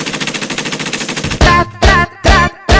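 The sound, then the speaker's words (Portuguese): A rapid, rattling burst of machine gun fire runs for about a second and a half, then gives way to four loud, blaring tonal blasts in a steady rhythm. No one speaks. “Pega a metralhadora.”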